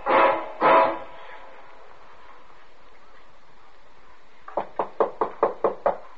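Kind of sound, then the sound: household object, knocking on a door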